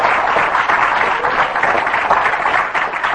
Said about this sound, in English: If you have been affected positively by the anointing of increase, I want you to give the Lord a big hand clap here this morning. Praise God.